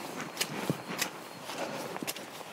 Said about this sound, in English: it's amazingly squidgy underfoot. It's a little bit of path, but when it's rained a lot, the rain builds up here, and you almost get a stream down the middle of the footpath.